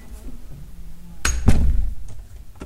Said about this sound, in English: And wait. Waiting whilst I shut the door.